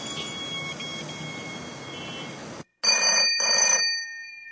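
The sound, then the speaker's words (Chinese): A home telephone rings loudly: one long jangling ring, a brief silence, then two shorter rings in quick succession. No one speaks. “家里电话响了，当时是我先生接的， 但是我不知道有那么严重，我就把电话交给他妈妈。”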